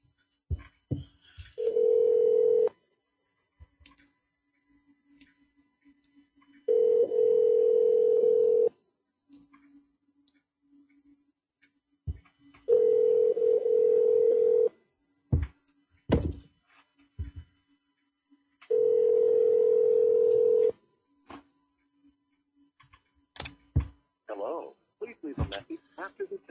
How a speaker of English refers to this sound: Ringing fucking phones.